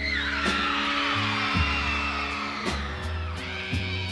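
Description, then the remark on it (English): A live concert crowd screams loudly and continuously, a dense high-pitched roar over thumping drums and a steady bass line from the band playing underneath. “That audience is just screaming their lungs out because this guy knows how to deliver a show.”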